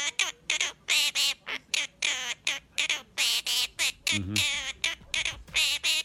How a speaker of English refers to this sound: This is a little baby bird. Okay. Making a noise. It's just a bird making a bird noise, but it's going to sound very, very familiar to you when you hear it.